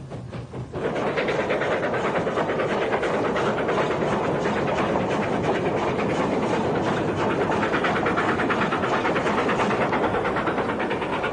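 A train from Yankoyi bound for Karla, the last station, rolls steadily along the tracks, its loud, continuous rumble carrying a rapid rhythmic clatter of wheels on rails that starts up almost immediately and holds throughout.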